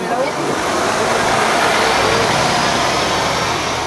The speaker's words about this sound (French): C'est bon, le bus est parti.